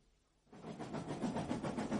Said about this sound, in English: we are on a train.